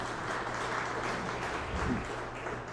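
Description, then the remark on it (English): During church announcements, an audience applauds itself for delivering 244 pounds of baby and children's items to Feeding South Dakota, a dense, steady wash of many hands clapping that carries evenly for a few seconds with no voices on top. “So give yourself a round of applause for that.”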